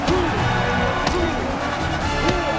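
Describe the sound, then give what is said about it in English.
Three heavy punches thud into a body at uneven intervals as Rocky Balboa punches Mason around the boxing ring, each a sharp impact over a constant roar of crowd noise and shouting voices. “Rocky punches Mason around the ring.”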